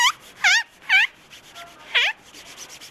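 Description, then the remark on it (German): A cloth rubbed briskly over a shoe, making four high, squeaky strokes at an uneven pace, each wavering in pitch, with a soft hiss of rubbing between them and no voices. “Dem kurios klingenden Polieren der Schuhe mit Hilfe eines Tuchs.”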